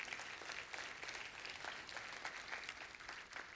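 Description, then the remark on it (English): Steady applause from an audience honouring those who prepare weekly lessons teaching the word of God, a dense patter of many hands clapping at an even, fairly loud level without letting up, with no voices heard over it. “Would you join me in us applauding those who do that kind of hard work?”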